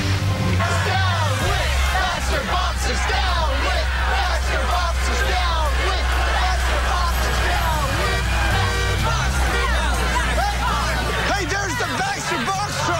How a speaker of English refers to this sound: At the Christmas tree, a supply truck pulls up.